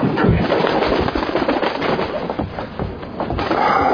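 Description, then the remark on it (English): A bird flutters and scuffles as someone tries to catch it, a dense run of rapid, irregular bursts and rustles that carries on steadily for several seconds, with no voices. “Come here, birdie, birdie.”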